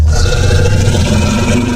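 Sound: tyrannosaurus rex roar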